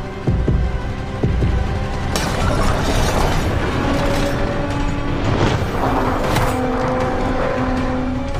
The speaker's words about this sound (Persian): ماگرا به همراه وولف از پله های قصر میاد پایین. صدا میشنوه، میسته. بمب به وسط سقف قصر میخوره. کفون محل اصابت بمبا رو به قصر میبینه. سقف قصر ریزش میکنه، دیواراش خراب میشه.